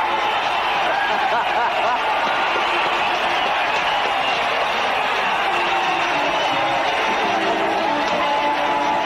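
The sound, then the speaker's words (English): A large ballpark crowd roars and cheers continuously after a line single to left, with Minnie Minoso at first base, called by Harry Carey. It is a dense, sustained, broad wash of voices and applause that stays loud and steady throughout. “Listen to the crowd.”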